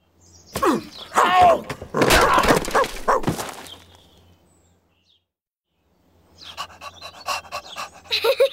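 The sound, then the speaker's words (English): A dog pants in quick, breathy bursts for a few seconds, falls silent briefly, then resumes with lighter, rapid panting. No one speaks. “Look, it's an egg and it's a woof, woof. Dog. Woof.”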